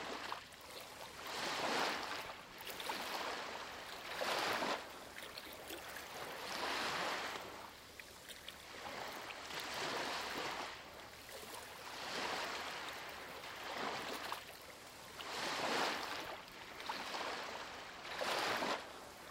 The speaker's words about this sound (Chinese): 观察海浪浸润每一粒沙，向后退去，最终离开。